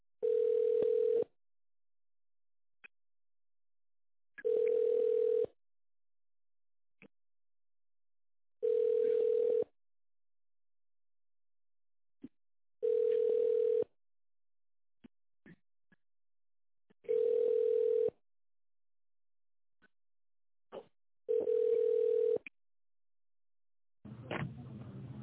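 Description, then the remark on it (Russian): A telephone ringback tone during a call to the company ITsVIP, with dialing continuing while the person called is on another call. It repeats six times in a steady rhythm, each steady mid-pitched beep lasting about a second with roughly three-second gaps of near silence, heard over a narrow phone line. “Абонент сейчас разговаривает, но я продолжаю дозвон.”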